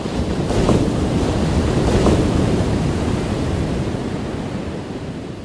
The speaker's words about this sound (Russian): Набежавшая огромная волна подхватила их и хлынула на берег со всей своей мощью.